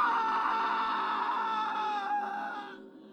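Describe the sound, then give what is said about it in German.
A shrill, drawn-out scream rings out loud from a bathroom for about three seconds, holding a piercing pitch before it trails off and fades at the end. “Sie wollten gerade wieder das Licht von außen anschalten, da drang ein schriller, grausamer Schrei aus dem Badezimmer.”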